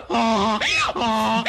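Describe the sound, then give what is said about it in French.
A man's voice imitates a donkey's bray, loud, alternating a low groaning tone with a higher rising-and-falling squeal in a quick hee-haw rhythm over about a second and a half. “Il tente de faire l'âne.”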